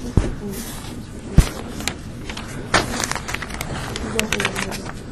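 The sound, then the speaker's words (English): Sheets of paper rustle and crackle in a string of irregular bursts, with a couple of sharper taps or thumps as the pages are handled. “It's the wrong piece of paper.”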